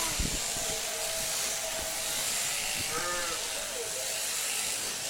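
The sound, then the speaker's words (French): A steady electric buzz of sheep-shearing clippers runs throughout as sheep are shorn on shearing day, with a short sheep bleat rising about midway and some soft knocks and shuffling. “C'était la tondeuse à moutons, jour de tonte, qui tondait les moutons.”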